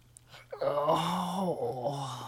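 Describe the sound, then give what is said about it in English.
A person stretching lets out one long, drawn-out vocal yawn, a groaning moan that swells and then sags, with no talking. “Let's yawn and stretch before we go.”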